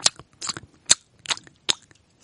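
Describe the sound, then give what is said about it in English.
A person imitates open-mouth gum chewing, smacking the gums together, with a series of wet, clicky smacks, five or six sharp bursts in an uneven rhythm, fairly loud with quiet gaps between. “it's when you chew gum but smack your gums together.”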